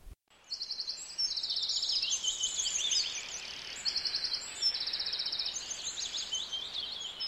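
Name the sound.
nightingale singing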